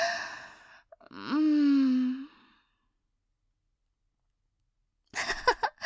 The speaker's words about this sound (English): Look at you. Looks like you're trying to gather your breathing.